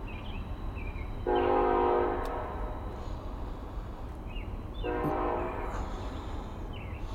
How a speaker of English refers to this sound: The train is actually, I'm trying to think how many blocks off to my right. Probably, let's see, 2 to 3, I would say 3, I think.